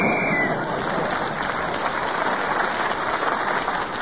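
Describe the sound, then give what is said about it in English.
A studio audience applauds steadily, a dense wash of clapping that stays loud and even throughout, with a brief high whistle tone fading in the first half second, applauding a panellist for speaking as the whistle went. “But they did applaud you for speaking as the whistle went.”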